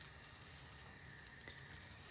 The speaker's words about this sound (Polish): O, jak skwierczy pięknie masełko. Słyszycie to? Rozumiecie to?